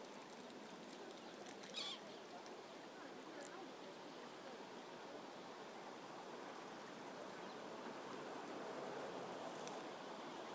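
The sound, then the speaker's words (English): A boat drifts past on the River Thames, heard from the north bank near Isleworth where it meets Sion Park, UK. Its steady watery wash fills the scene at an even, moderate level, with a few faint bird calls and light knocks scattered throughout. “A boat drifting past.”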